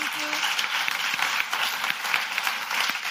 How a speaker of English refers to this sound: And I think your applause is in order to all four speakers.